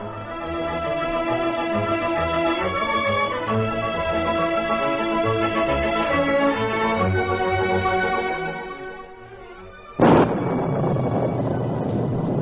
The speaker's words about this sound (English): Lightning split the heavens and thunder echoed from the hills. Rain came down in torrents and one of the heaviest spring storms that part of the Yukon had ever known.